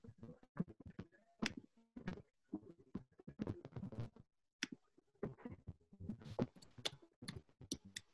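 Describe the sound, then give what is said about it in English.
Rapid, irregular keyboard typing into a chat box: quick bursts of sharp clicks and taps with brief pauses between runs of keystrokes, fairly loud and with no one talking. “Yeah, we can hear her typing.”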